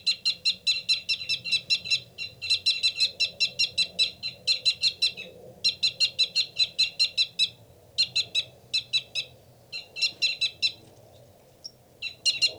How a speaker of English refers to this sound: That loud, rapid one is the male. A fight call from the male.